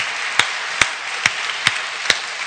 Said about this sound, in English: I think this is a great opportunity to give the choir and our whole worship team a round of applause because they do such a great job.